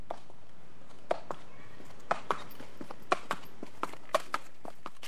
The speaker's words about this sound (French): En guise de bande-son, l'écho rythmé des sabots de café, notre première mule